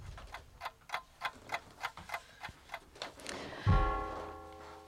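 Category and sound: sound effect, clock ticking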